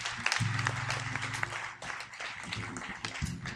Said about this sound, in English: If you prayed that prayer for the first time, let's say welcome to the family, family of God. Yeah, let's give them a hand clap.